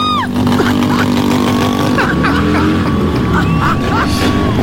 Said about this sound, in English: Warning, the sound of engines revving are erotic. Here we are at the start.